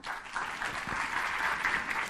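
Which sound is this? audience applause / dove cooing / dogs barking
audience applause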